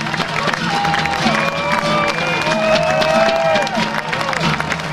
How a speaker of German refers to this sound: Begleitet von seinen Brüdern und drei Kollegen auf schweren TÜV ist er durch ein langes Spalier von Rennfahrern mit ihren Velopedalen und natürlich vorbei am Publikum, das ihn mit einer Standing Ovation bejubelt hat.